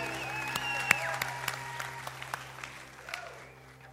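Scattered audience applause: a loose patter of individual claps at an irregular pace, fairly quiet over a steady low hum, thinning out and fading toward the end.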